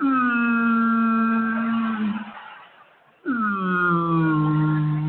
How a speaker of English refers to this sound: Whales always kind of sound depressed, don't they?